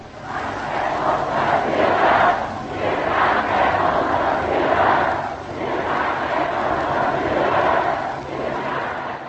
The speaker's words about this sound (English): The huge Sudeten German crowd bursts into cries of We thank our Führer.